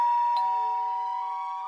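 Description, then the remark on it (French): A doorbell chimes once with a bright, ringing tone that lingers and slowly fades, with no voices around it. “Ho ho ho, tant pis, la magie de Noël sonnera à la porte.”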